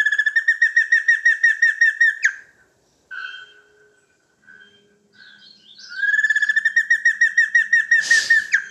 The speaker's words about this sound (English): This is the giant ant shrike.